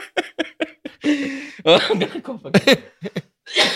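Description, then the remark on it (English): Someone has a loud coughing fit: a quick run of sharp, rasping coughs, then a cluster of heavier, throaty hacks with brief pauses between them. “Cough break.”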